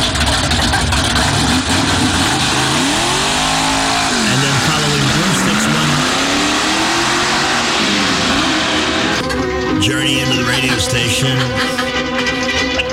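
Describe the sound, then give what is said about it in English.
A car engine roars, recorded by a microphone mounted on the car at a house, its pitch climbing and dipping as it revs, with loud, steady road rumble throughout and a harsher, rattling texture in the final few seconds. “Yeah, it started out, we had a microphone on her car at the house.”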